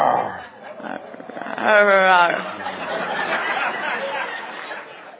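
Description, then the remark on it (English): A person makes a loud, harmonic, growling roar with their voice lasting about half a second, set within a stretch of rough, breathy vocal noise and muffled background. “Especially when I want to make those strange sounds like roaring.”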